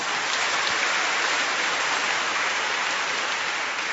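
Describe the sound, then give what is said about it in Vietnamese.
A crowd claps steadily and loudly for several seconds, a dense, even wash of many hands applauding with no voices on top. “Một tràng pháo tay nữa thưa các bạn.”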